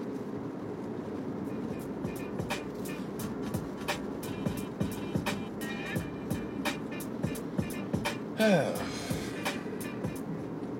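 Steady low road rumble from inside a car moving through road traffic, with faint regular ticking throughout and a brief rising chirp near the end. The noise stays even and moderately loud.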